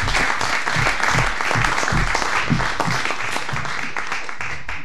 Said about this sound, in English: I really appreciate your clapping before, because you certainly will not feel like crapping after.